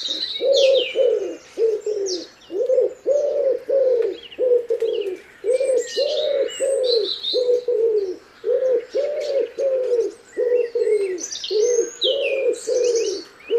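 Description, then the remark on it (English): A dawn chorus of songbirds in Ireland at first daylight, with a steady run of low, repeated dove-like coos in the foreground and many bright chirps and trills from other birds layered above, continuous. “Each morning in spring and summer, as the first glimmer of daylight begins to dispel the darkness, millions of birds burst into song.”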